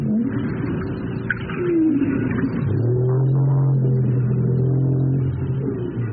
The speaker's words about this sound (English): That's a North Atlantic right whale recorded off the coast of Martha's Vineyard in Massachusetts. North Atlantic right whales migrate and feed along the U.S. East Coast, which is also ground zero for the U.S.'s growing offshore wind industry.